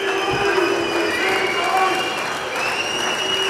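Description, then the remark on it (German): A large crowd at a club members' meeting in Dortmund applauds steadily while shrill whistles pierce through, a dense, continuous wall of clapping and whistling that lasts a few seconds. “Pfiffe, Applaus.”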